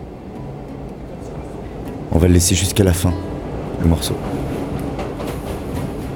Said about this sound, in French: Et le métro s'en va.